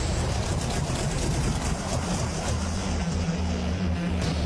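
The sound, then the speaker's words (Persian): A loud aircraft engine drones steadily with a deep rumbling hum, its low tone wavering and dropping slightly toward the end as the engine loses speed and fails. No voices. “موتور داره سرعتش از دست میده.”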